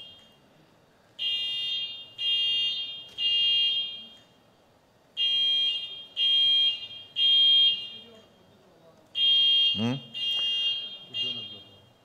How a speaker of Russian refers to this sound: Небесный Отец, секундочку, сейчас отключат. Что-то включилась сирена.